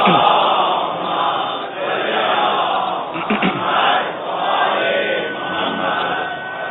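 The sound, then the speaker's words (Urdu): A large audience at a religious sermon chants religious slogans together in loud, continuous unison, the massed voices swelling and dipping in waves for several seconds with no single speaker standing out. “چلیں تبلیغی جملوں کے اوپر بھی الحمدللہ لوگ بیدار ہیں اور نعرے آ رہے ہیں.”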